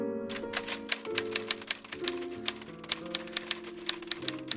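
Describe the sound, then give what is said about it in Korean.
Crisp typewriter keys strike in a quick, fairly steady run of about twenty sharp clacks as someone writes a novel, with soft sustained musical tones humming underneath and no voices. “난 곧바로 그녀에 대한 이야기를 소설로 쓰기 시작했다.”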